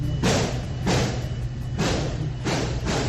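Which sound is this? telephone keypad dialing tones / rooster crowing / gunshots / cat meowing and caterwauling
gunshots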